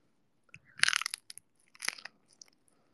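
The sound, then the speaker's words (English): Two crisp crunching bites into food, fairly loud, each a brief burst of crackly noise about a second apart, with no talking. “Okay, probably you heard that crunch.”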